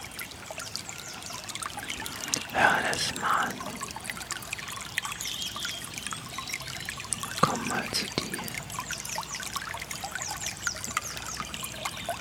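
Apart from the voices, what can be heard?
trickling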